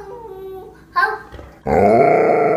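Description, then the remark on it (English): An Alaskan Malamute vocalizes while a young boy of about 2 years old has a conversation with it: a soft drawn-out whine, a brief sharp yelp, then a loud, sustained, warbling howl-like 'talking' sound that runs to the end. “we close with a young boy. He looks about to be 2 years old, having a conversation with his Alaskan Malamute.”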